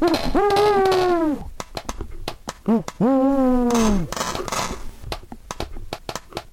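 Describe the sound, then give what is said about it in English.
Drawn-out owl hoots ring out, broken by a short squawk, while five owls scratch at a window at the same time, sharp scattered tapping and scratching clicks pattering irregularly throughout against the glass. “And later they're woken up by 5 owls simultaneously scratching at the window.”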